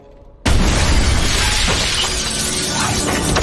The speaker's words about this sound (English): lands through the skylight. Glass flies everywhere.